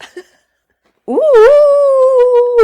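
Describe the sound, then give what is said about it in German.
A person imitates a dog's howl: after a short pause, a voice slides up into one sustained, loud howling tone that holds steady for over a second. “Soll ich das heulen? Ich kann da gleich anschließen. Also Heul doch mal.”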